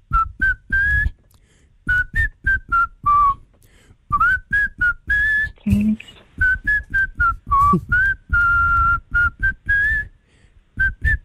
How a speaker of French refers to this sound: Il va siffler pour vous ce matin, pour vous faire deviner un artiste français qui se cache derrière son joli sifflet de rossignol.